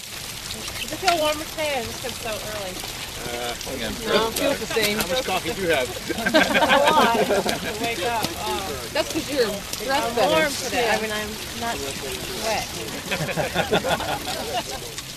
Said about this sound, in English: Another day of excitement in the rain.